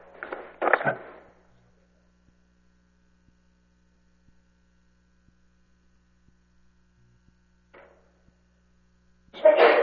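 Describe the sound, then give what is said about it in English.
A sharp, two-part sneeze bursts out at the start of a public commission hearing, followed by long quiet over a steady low electrical hum, with a brief faint noise and another loud burst at the end. “Bless you.”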